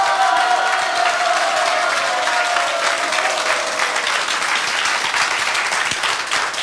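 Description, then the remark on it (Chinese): An audience bursts into sustained applause, a dense, steady wash of many hands clapping at an even loudness for several seconds, with faint cheering mixed in and no one speaking. “要不要掌声鼓励一下？”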